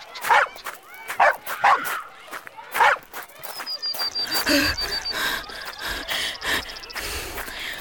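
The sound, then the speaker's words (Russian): A dog sniffs a mitten in quick, rhythmic bursts, mixed with short yips and barks, followed by a busier stretch where a thin, steady whine carries over the noise. “Кусачечка, нюхай давай, помоги нам. Смотрите, кажется, что-то учуяла.”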